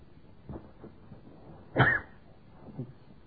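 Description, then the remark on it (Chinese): A harsh cough stands out loudly in the middle, with a few softer coughs or throat sounds around it. No one speaks. “这个录音带的地方今天被我的咳嗽吓的。”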